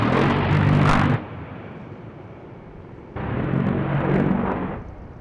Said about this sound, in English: It's not as sleek as a fighter jet, but the burst of fire from its 30-millimeter rotary cannon is startling.